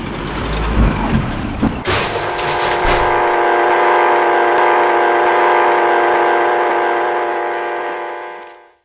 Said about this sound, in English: Kavanaugh's truck, in a horrible roaring and grinding of gears, crashed down on them